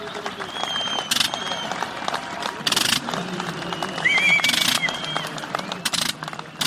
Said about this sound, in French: Une foule immense l'accueille, le pilote sera reçu par le roi le lendemain.